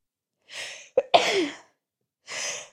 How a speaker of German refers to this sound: Oh, ich habe das Gefühl, ich muss gleich niesen.